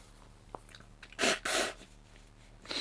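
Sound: human sneeze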